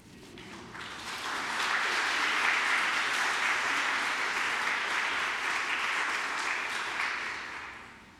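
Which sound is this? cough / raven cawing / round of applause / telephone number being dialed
round of applause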